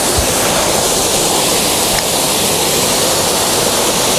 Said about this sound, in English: Yeah, there's a pretty big plunge pool in front of this waterfall, which is rather marvellous.